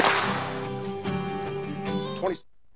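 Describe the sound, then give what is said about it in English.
Three sharp hand claps snap out in a quick series over a dense, sustained wash of tonal music and voices, and everything cuts off abruptly near the end. “Three claps.”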